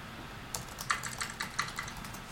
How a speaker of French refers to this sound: Donc, on tape sur le clavier et lui me répond à la fois sur le clavier.